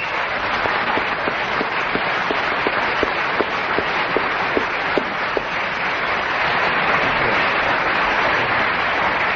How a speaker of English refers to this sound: Oh, a thunderous round of applause for Giles Brandreth, well deserved, taking the subject and keeping us entertained with it, which is also very difficult